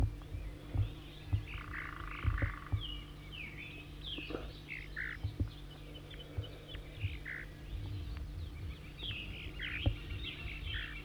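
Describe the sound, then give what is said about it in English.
A bird identified as 4-3 gives repeated high, buzzy zeezer calls in short scattered bursts, sounding like a type 2 bird, set against a steady low hum and a chorus of croaking frogs. No one speaks. “Now 4-3 giving zeezers and stuff.”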